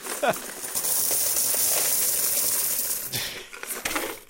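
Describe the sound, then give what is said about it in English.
A big paper box filled with coins is shaken, loose change jingling and clinking in a dense, continuous rattle with a few sharper metallic chinks standing out near the end. “Wait, it's a big paper box filled with coins.”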